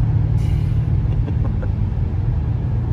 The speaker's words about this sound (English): I'm driving through France in snow, and the roads haven't been gridded, and I'm on summer tires in a 600 horsepower M5.